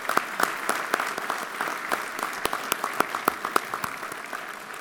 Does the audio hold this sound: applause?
yes